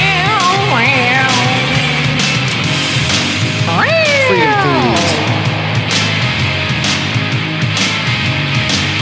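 A cat named Henrietta meows twice from a chair behind the speaker, a short call followed by a longer, drawn-out one that rises then falls, heard over a constant noisy background hum.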